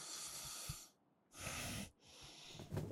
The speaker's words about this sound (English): You panting already? Oh, poor thing. We haven't even started yet.